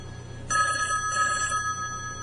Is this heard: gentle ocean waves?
no